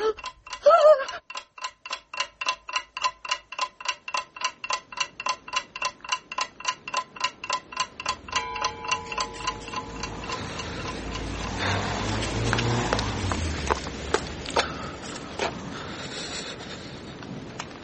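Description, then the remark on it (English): A clock ticks steadily at a brisk, even pace, crisp. Partway through, a rushing, windy noise swells underneath, while the ticking carries on beneath it. “You see this clock?”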